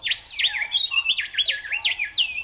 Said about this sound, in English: Travel in the direction of a chirping bird, and you'll likely be led to food, water, and a favorable habitat. Our ears are actually more closely tuned to hear bird song than even the human voice.